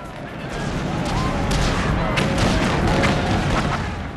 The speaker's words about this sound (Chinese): 瓜达尔卡纳尔不是一个名字，而是一种情感，令人回忆起誓死的空战、激烈的夜间海战、紧张繁忙的供给和建筑、泥泞丛林里面的原始搏斗，还有被呼啸而过的炸弹和震耳欲聋的爆炸声惊醒的夜晚。